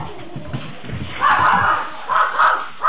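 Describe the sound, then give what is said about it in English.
A dog barks in a few loud, drawn-out bursts while chasing a bear, over a muffled, noisy background, with a short pause between the barks and one more starting at the end. “I am glad that dog didn't catch the bear.”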